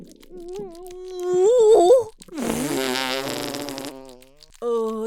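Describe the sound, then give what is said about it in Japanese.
A drawn-out, squeaky fart with a wavering pitch, followed by a louder, raspy, sputtering blast and a short final toot, with no talking. “坊やは私のおならとうんこが本当に大好きなんだな”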